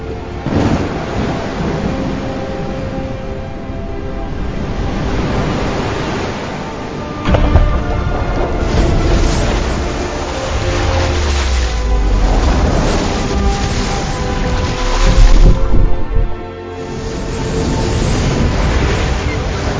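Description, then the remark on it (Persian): A loud, continuous roar of churning sea water as the sea parts, with deep rumbling surges, swelling to heavier crashes about a third of the way in and again near the end. “موسا عصایش را به دریا زد، دریا از هم شکافت و هر پارش چون کوهی بزرگ.”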